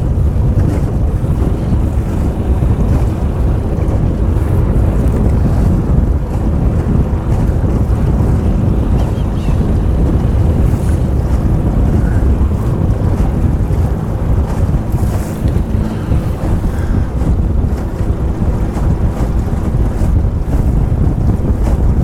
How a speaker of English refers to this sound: No, that's a little bit more than a little, and that wind's picking up now.